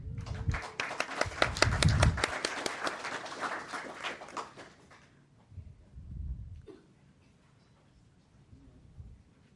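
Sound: audience clapping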